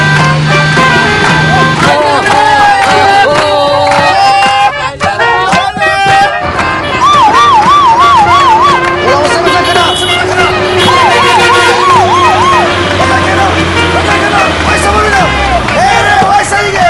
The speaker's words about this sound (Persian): یه آژیر نداری؟ اگه آمبولانس دیگه آژیر داشته باشه. آژیر به این درازی یعنی آژیر نداره؟